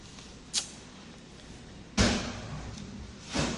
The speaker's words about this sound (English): So maybe I close that door too.